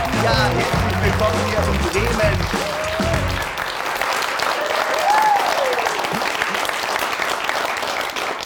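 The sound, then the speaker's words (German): A large live studio audience in Bremen, Germany, applauds loudly and steadily throughout, with dense clapping and a few cheers, while a short musical sting fades out underneath during the first few seconds. “Also, ich bin ja überwältigt, so viel Publikum hier zu haben.”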